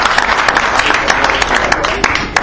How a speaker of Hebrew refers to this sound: אז תנו מחיאות כפיים לאלעד טובי שלא נמצאת איתנו, אבל מגיע לה בהחלט.